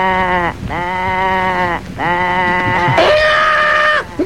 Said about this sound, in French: fais rentrer les moutons. Ok, ça roule.